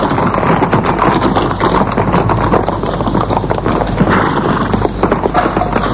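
horse hooves clip-clopping

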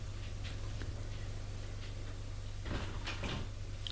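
knock and door opening

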